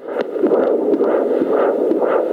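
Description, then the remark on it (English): A fetal heartbeat on a prenatal Doppler monitor as a certified nurse midwife at Santa Paula Hospital in Ventura County listens to a mum-to-be's baby: a fast, steady whooshing pulse, roughly two beats per second, over a constant hiss of static, loud with no one talking. “Listening to baby's heartbeat with this mum-to-be,”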